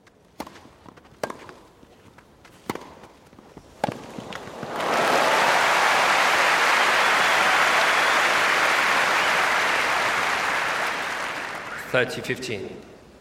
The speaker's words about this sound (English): So when you're in the middle of a cheering crowd, when it's been recorded well, the surround really involves you in the play, if you like. It's like actually being there.